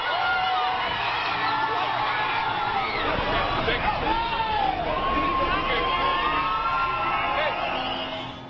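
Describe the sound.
A large protest crowd cheers and shouts continuously as a protester assaults a driver through his car's sunroof, with rising whoops and overlapping voices forming a loud, dense roar that stays steady throughout before easing slightly at the end.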